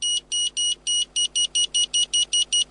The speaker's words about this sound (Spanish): Nuevo MG GT con sensor de retroceso.